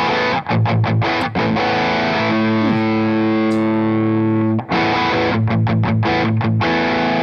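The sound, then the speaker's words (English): Heavily distorted electric guitar, played through a high-gain overdrive pedal, plays loud palm-muted chugs, lets one thick, saturated chord ring out for a couple of seconds, then returns to the choppy chugging riff. No voices. “So the plus mode is higher gain, I would say.”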